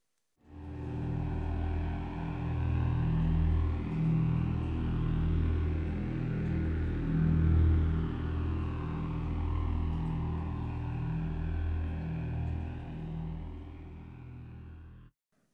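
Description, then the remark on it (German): A low, steady droning hum, like a diesel engine running, with a deep throbbing pulse and faint higher overtones, continuing unbroken for about fifteen seconds with no voices; a deep, monotonous hum heard while lying in bed trying to sleep. “Ihr hört ein tiefes und monotones Brummen, vielleicht auch eher Summen, als ob ihr in der Ferne einen Dieselmotor hört oder ja, vielleicht einen Bienenschwarm. Das Ganze hört sich dann in etwa so an.”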